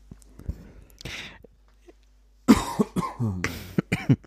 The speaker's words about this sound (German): Oh, Entschuldigung, ich mute mich mal kurz zum Räuspern.